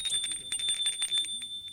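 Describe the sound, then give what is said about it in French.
A doorbell rings in one steady, bright electric tone that holds for the full two seconds, with faint clattering noises underneath. “Il sonne à la porte de Sylvie.”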